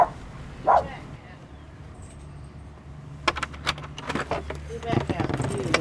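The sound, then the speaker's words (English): A small dog, Adam, a perky little lap dog, gives one short, high yip near the start, then metallic jangling and clattering clicks fill the rest, with faint background noise throughout. “Oh yeah, Adam is a perky little lap dog.”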